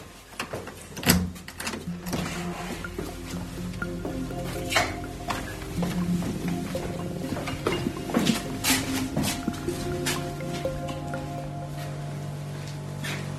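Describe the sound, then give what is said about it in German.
A soft, steady mechanical hum from a heat pump, installed by the municipal utility in the heating cellar of an apartment building in Schleswig, drones on with low tonal layers, broken by scattered clicks and metallic clanks. No one speaks. “Dieses sanfte Summen, das ist doch wahrscheinlich die Wärmepumpe, oder?”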